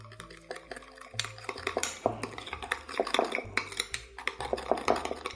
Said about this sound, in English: Four teaspoons of sugar. I use 2 teaspoons of Diamond Crystal kosher salt here. Again, if you have Morton's, I would go maybe more like a teaspoon and a half, just because that's a denser, saltier salt. Stir those things together.